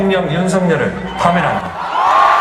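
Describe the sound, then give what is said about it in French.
A crowd of pro-democracy protesters on the main square in Seoul, South Korea, cheers and shouts joyfully at the announcement of a long-awaited decision, with overlapping excited voices and high whoops rising and falling, loud and continuous throughout. “Des cris, des applaudissements et même une fanfare.”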